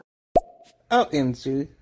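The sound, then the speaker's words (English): A sharp plop with a thin lingering tone, then three short buzzy, harmonic-rich notes: a Motorola flip phone ringtone, moderately loud. “Who's got the Motorola phone?”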